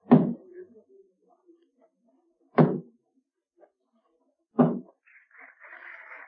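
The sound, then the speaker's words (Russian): Three heavy, deep wooden thuds of a hammer striking, the traditional three knocks marking the start of a performance at the Comédie-Française, the House of Molière, spaced roughly two seconds apart with silence between; after the third, a faint, higher murmur of sound begins. “Два спектакля, две актрисы, две истории и три традиционных удара молотком. Начало спектакля во французской комедии «Доме Мольера».”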